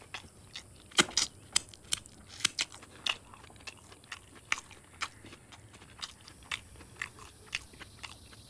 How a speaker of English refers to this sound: licks his fingers and carries on munching, seemingly unaware of the strained atmosphere.